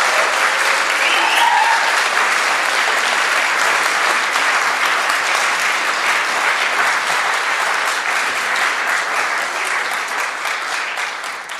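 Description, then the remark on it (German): Sustained, warm applause from a sizable audience welcoming four guests to the front, a dense, steady wash of clapping that stays loud for about eleven seconds and tapers only slightly near the end, with no voices over it. “Und ich bitte Sie mal mit einem warmen Applaus hier vorne willkommen zu heißen.”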